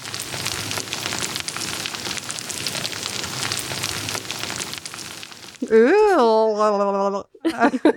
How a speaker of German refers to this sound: Das klingt ziemlich abgefahren. Ja, das ist tatsächlich das Geräusch, das Regenwürmer machen, wenn sie durch das dunkle Erdreich ziehen, wenn sie sich da durchfuttern. Und das hat der Künstler und Ökologe Markus Mäder aufgenommen